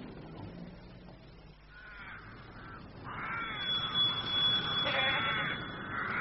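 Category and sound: animal, goats bleating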